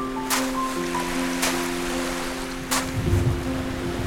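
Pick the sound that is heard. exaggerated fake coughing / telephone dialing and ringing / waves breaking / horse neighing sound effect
waves breaking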